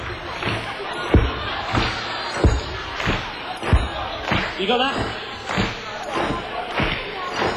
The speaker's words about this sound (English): Right, so this is the beat. It's a slow one. Okay, now those of you with knives and forks, if you bang on the beat in between, so I mean...